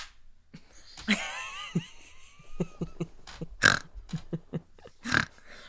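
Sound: hands clapping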